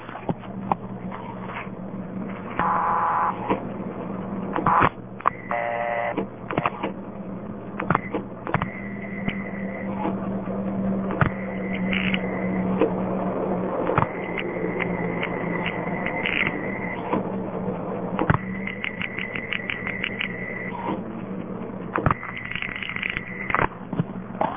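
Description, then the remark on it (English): Telephone panel switch pulsing heard over a phone line on a Bell System call dialed from a payphone in Issaquah to Seattle: bursts of rapid, evenly spaced clicks and brief tones recur against a steady low hum, with sharp isolated snaps in between and no talking. “I like listening to panel pulsing. That's why I always dial some.”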